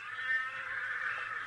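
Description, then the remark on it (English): A distant horse whinnies in one long, steady, high-pitched call lasting over a second, faint and thin with no voices around it. “It's not one of our horses.”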